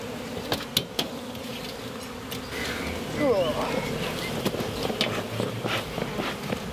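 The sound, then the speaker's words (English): Honeybees swarm around an opened hive in a steady, dense hum, one passing by with a rising whine midway, while sharp knocks of wooden hive boxes being moved and taken off break in and faint voices murmur. “Stops them swarming as much, because sometimes you get the old angry bees, especially midday, because that's when they're most active.”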